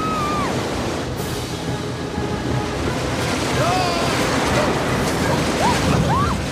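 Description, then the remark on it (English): Rushing river water and a waterfall roar in a loud, steady wash that never lets up, as a swift river current flows out of a cave along a rock channel, with a few faint, brief squeaky whistles rising above it now and then. “The swift current carries them downward, then spits them out of the cave as the river continues flowing along a rock channel outside.”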